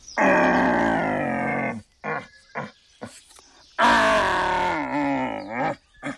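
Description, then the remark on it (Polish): A forester imitates by mouth a red deer stag's roar: two long, deep, bellowing calls, each nearly two seconds, separated by short grunting huffs, loud. Stags roar like this to attract hinds and announce their location, condition and territory. “W ten sposób się odzywają jelenie byki.”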